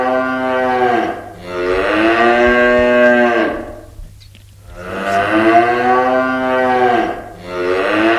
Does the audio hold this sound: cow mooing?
yes